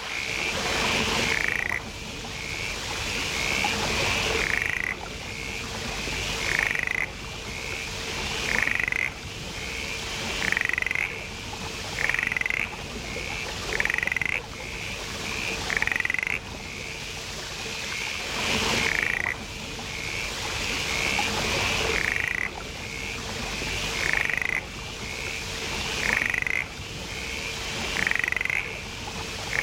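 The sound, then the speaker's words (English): Repeated calls of a mountain mist frog, sharp rising chirps around two to four seconds apart, ringing out clearly against a steady rainforest backdrop of insects and ambient hiss. “And hear the sound of the mountain mist frog.”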